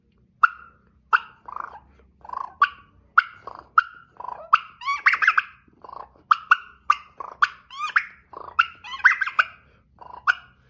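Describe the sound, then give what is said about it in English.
A turkey mouth call clucks in a steady string of sharp, loud, mid-pitched notes, about two per second, mixed with brief rolling purrs. It imitates a wild turkey, with no talking. “And so what I'm doing with this call, for all you guys that don't know, I'm adding it in with my clucking and my purring.”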